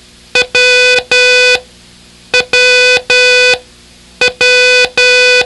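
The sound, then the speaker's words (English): Morse code beeps sounded from a key in a short-long-long pattern, the letter W, repeated three times with brief pauses between groups. Each tone is loud, steady and buzzy with a bright, mid-high pitch, and no voices are heard. “It's a short followed by two longs.”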